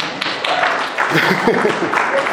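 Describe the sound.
A crowd applauds steadily for a couple of seconds, a dense wash of many hands clapping at once, with some voices mixed in underneath.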